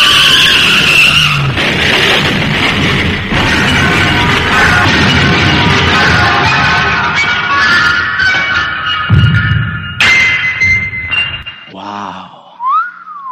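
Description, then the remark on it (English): A runaway garbage truck skids loudly in the street, tires squealing over a heavy rumbling engine for about ten seconds, then a few abrupt high whistling tones break off at the end. “She grabbed my laundry and ran into the street, directly into the path of a runaway garbage truck.”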